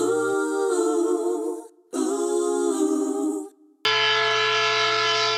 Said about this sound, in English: Well, that's not my model train set. I just love those train sounds.